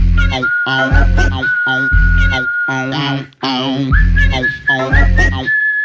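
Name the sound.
human whistling a tune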